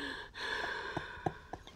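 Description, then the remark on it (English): Someone imitates heavy breathing: a long, loud, breathy exhale after a brief catch, with a few small mouth clicks near the end. “Heavy breathing.”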